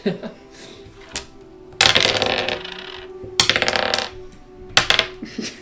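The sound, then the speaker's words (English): Dice rattle and clatter across a tabletop in three separate rolls, each a quick burst of sharp clicking that settles after a second or so, with faint low murmuring between throws; the roller keeps getting sixes. “I keep getting sixes, so I'm just gonna keep going.”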